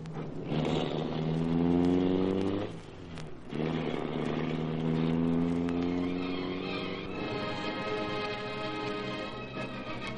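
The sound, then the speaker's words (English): The engine of the car Black Beauty roars to life and accelerates hard, its whine climbing in pitch, dipping briefly as it shifts gear, then pulling away in a loud, steady drone as it sets off to follow another car. No one speaks. “All right, start the Black Beauty and don't let that car out of our sight.”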